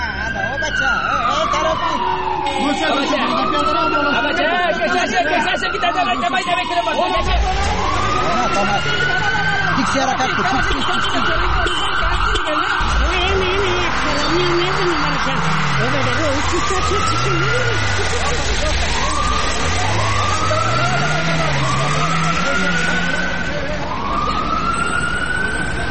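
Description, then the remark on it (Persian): Several wailing sirens rise and fall over loud, steady traffic noise as a line of unmarked cars with tinted windows and no number plates passes by on the road, with a voice talking through part of it. “اونه چند تا موتر شیشه‌سی های بی‌نمبر پلت از جاده رفت طرف ما میان و میخوان که طرف چرایی تیر شوند.”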